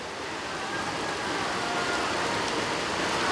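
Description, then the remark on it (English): Heavy rain pours down in a steady, dense, hissing wash that stays loud and unbroken throughout, with no voices or other distinct sounds. “It's pouring down rain.”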